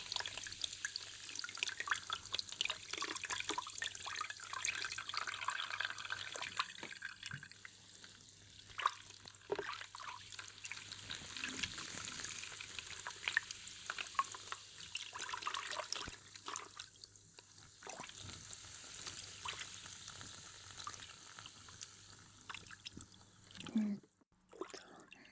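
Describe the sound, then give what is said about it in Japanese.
Carbonated water fizzes on hair and scalp during a scalp massage, a steady crackling hiss with tiny popping bubbles that runs almost without a break before a brief bump near the end. “炭酸水で血行良くなって、そうやって揉み込む風なスパもあるみたいだし。”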